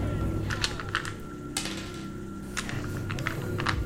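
Dice clatter across a tabletop in several quick bursts of light, hard clicks spread over a few seconds, over a steady low background hum.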